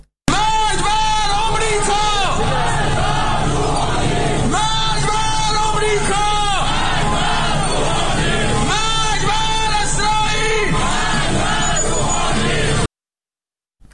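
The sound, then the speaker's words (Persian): A crowd of pro-government motorcyclists taking part in the revolution anniversary march in Isfahan, Iran, chants slogans together, including 'Death to Rouhani'. Loud rhythmic bursts of many shouting voices repeat in waves over a steady low rumble, continuous for about twelve seconds before cutting off. “گروهی از موتورسواران وابسته به حکومت و شرکت کننده در راهپیمایی سالگرد انقلاب شعار مرگ بر روحانی سر دادند.”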